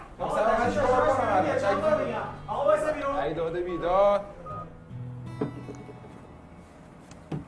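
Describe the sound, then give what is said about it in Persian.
People talk for the first few seconds, then it quiets as someone dials a phone number to call their family: a few sparse, short key beeps and taps, with a faint voice underneath. “گوشی من پیش شما. با خانواده‌ام میخوام تماس بگیرم.”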